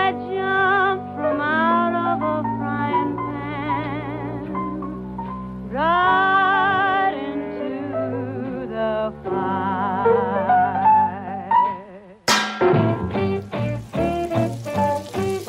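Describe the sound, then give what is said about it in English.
A bright, tuneful musical jingle with wavering held notes gives way near the end to a sudden loud frying-pan sizzle sound effect marking a segment called the frying pan, a crackling hiss that tapers off over the last few seconds. “And of course, that sound means it's time for the frying pan.”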